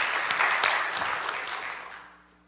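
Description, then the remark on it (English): A crowd applauds the Italians, clapping steadily in a dense wash of overlapping hand claps, starting strong and gradually thinning out and fading away over a couple of seconds, with no voices. “Let's give the Italians a round of applause.”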